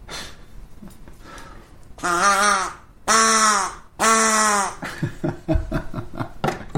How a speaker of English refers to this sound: And then we have our sound healing duck.